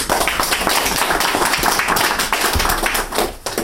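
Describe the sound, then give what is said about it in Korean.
An audience applauds the fathers and mothers being thanked, a dense wash of many hands clapping at once, loud and continuous for several seconds before thinning slightly near the end. “아버님 어머님 저기한테 박수.”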